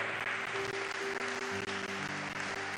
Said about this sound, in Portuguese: Aleluia, aplauda, se é para Jesus, aplauda o nome dele.